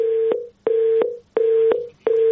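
A telephone line tone repeats in steady beeps after a phone call disconnects, four pulses of equal length separated by short gaps, clear and alone with no voices.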